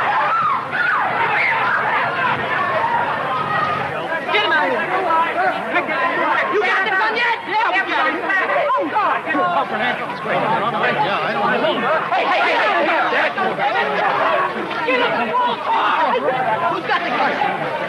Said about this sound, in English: Listen to the sound of pandemonium in the seconds after the shots were fired.